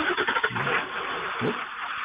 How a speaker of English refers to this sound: Oh, no, that's not him. That's the truck next to me.